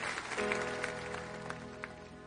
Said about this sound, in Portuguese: Quem recebeu esse momento, dê um aplauso bem forte ao Senhor.